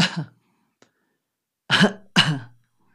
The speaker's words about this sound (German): Und dann fang einmal mit den natürlichen Funktionen des Körpers an. Ja, da macht der Körper nämlich alles richtig, zu husten.